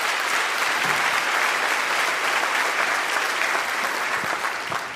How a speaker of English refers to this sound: So listen, yeah, that's worth clapping for.